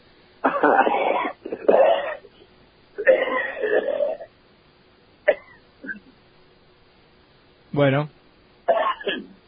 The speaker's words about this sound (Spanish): Sí, está con una tos importante. ¿Con mi salud? Sí. Tengo un ataque de tos.